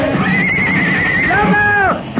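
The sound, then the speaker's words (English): A horse whinnies loudly, a long wavering neigh that rises then falls in pitch and ends with a short snort, heard on its own. “We can call our horses.”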